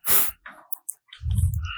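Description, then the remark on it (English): A single loud, sharp sneeze bursts out at the start, followed by a few faint clicks and rustles and then a low rumbling noise. “Bless you.”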